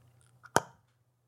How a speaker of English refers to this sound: You're clicking. Yeah, that means you haven't seen it.